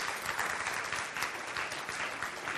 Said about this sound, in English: And that's give yourself a good hand clap.